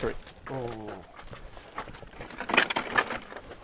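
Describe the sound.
Hooves clop in an uneven rhythm as donkeys, ridden by people, walk along a street, a brief tonal bray-like sound rising early on, with people talking in the background.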